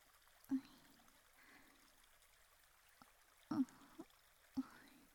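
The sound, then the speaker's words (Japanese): A small stream trickles softly and steadily, broken by a few brief splashes or drips from the running water. No one speaks. “こうやって小川でちょっとだけ涼んだだけでもだいぶ涼しくなりましたか？”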